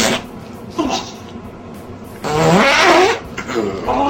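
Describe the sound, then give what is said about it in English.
A woman's loud, drawn-out fart with a buzzy, wavering pitch stands out near the middle, flanked by shorter, softer sputters before and after over a steady hiss. “Lick that stinky fart.”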